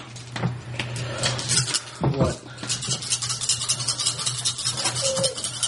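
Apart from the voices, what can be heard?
dice being rolled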